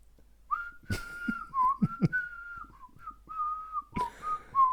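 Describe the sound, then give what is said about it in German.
The German Christmas carol "Ihr Kinderlein, kommet" is whistled in clear, sustained mid-pitched notes that glide gently between phrases, with a few sharp knocks or taps breaking in partway through. “Ihr Kinderlein kommt mit, oder?”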